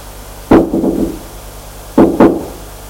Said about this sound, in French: Va frapper à la porte de droite parce que c'est la seule qui a un nom.